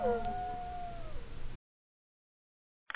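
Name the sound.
howling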